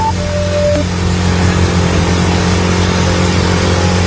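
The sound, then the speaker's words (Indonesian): A motorcycle engine drones steadily as it is ridden at night through cold night air, from Setiabudi to Cimahi. Its low hum holds an even pitch beneath a constant rush of wind noise, with no voices. “Cap gas motor menerpa angin malam yang dingin saat itu”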